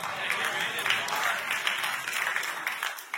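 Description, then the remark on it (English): An audience applauds steadily for a few seconds, a dense wash of many hands clapping at once, fairly loud and sustained throughout with no voices standing out. “Now y'all aren't going to clap for this one.”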